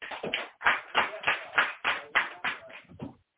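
A crowd claps together in a steady rhythm, about two beats per second, the sound full and close with no one speaking over it.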